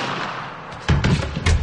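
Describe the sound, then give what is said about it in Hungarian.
A firing squad of twelve soldiers, in two rows of six, fires a rifle volley on the command "Tűz!" ("Fire!"): after a quiet hiss, a loud, sudden crash of simultaneous shots breaks out, rumbling low, with a second sharp burst of gunfire a moment later. “Tűz!”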